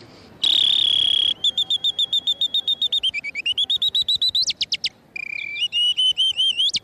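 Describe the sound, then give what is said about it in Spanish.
A loud whistle mimics birdsong: a long steady note, then rapid staccato chirps rising and falling in pitch, trills and warbling runs, with no talking. “Esto para ñá cantar los pájaros es una cosa extraordinaria.”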